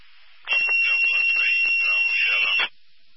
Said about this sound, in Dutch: Oké, met een heerlijke piep.